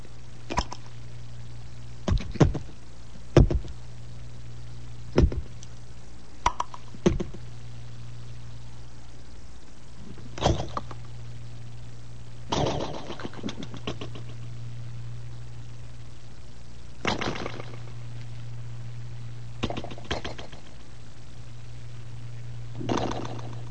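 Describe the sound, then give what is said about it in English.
A voice imitates cream of wheat just arriving at the boiling stage: irregular wet pops and bursts, some quick pairs and lone plops, spaced over a steady low hum with quiet gaps between. “That is my surrealistic version of the sound of cream of wheat just arriving at the boiling stage, which is a very exciting stage for a young boy to go through, the boiling point.”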